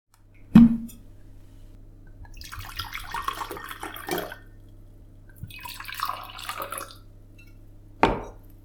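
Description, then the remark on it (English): Wine splashes into a glass in two gurgling pours of a couple of seconds each, framed by a sharp glassy knock at the start and another at the end. No one speaks. “Let's have a glass of wine to celebrate.”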